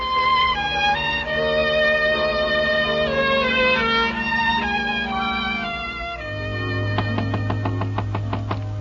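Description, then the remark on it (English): A music cue plays, then a quick, steady series of about a dozen sharp knocks on the door of a ranch house rings out over a low sustained tone near the end. “If you own the ranch, Johnny, why are you knocking at the door?”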